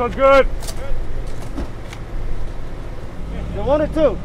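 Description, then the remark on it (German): A steady low rumble of idling cars lined up bumper to bumper at the entrance to a large parking lot in an industrial park in northeast Odessa, Texas, queueing for a food bank's drive-in food distribution, with people's voices talking briefly over the engine drone at the start and end. “In einem Industriepark im Nordosten von Odessa reiht sich an der Einfahrt zu einem großen Parkplatz Auto an Auto.”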